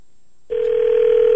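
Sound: telephone dialing and ringing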